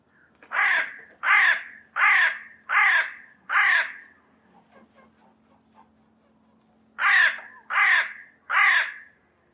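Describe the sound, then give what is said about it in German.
A magpie perched at the top of a tree in the rain gives harsh, rasping calls: five in a steady rhythm, a short lull with faint clicks, then three more. The calls are loud and stand alone, with no talking. “Auf der Spitze des Baumes sitzt trotz des Regens eine Elster.”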